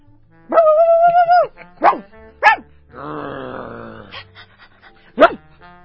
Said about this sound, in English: who let those dogs in the studio? Who let the dogs in? Woof, woof, woof, woof.